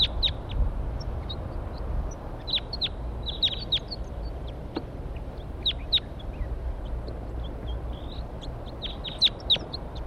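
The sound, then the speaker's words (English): Wild birds perched in a pine tree above where a net is being set up call in short, high chirps that come in scattered bursts and clusters, some overlapping, over a steady low rumble with occasional sharp clicks. No one speaks. “Wild birds.”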